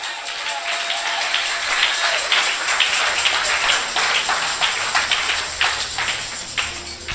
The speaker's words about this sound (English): Give God another clap offering.